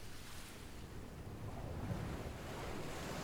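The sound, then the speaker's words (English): Steady ocean surf rolls and washes continuously out in the middle of the ocean while wind gusts buffet the microphone, a full, rumbling wash of open-water noise with no voices. “Well, I have a theory that anyone who has to come all the way out here in the middle of the ocean to escape their day-to-day life must have a lot to escape from.”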